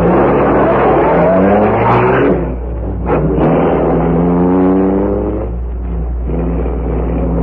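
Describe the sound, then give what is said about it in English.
A car engine revs loudly, its pitch surging and shifting, then eases slightly as the vehicle pulls off and keeps running. Nobody speaks. “Take the car onto the rear.”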